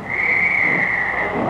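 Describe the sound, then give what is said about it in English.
A railway guard blows a single long, shrill whistle blast that holds one steady high pitch for over a second, loud, with a faint low rumble of background noise underneath. “I'm going to blow me whistle right now, and that's it.”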